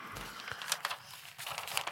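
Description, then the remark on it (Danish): Soft rustling of a sheet of paper lying in front of a guest as it is turned over to be read aloud, with a couple of brief crinkly bursts spread across a quiet moment and no voices. “Og der ligger et stykke papir foran dig, som jeg gerne vil bede dig om at vende om og læse fordommen højt.”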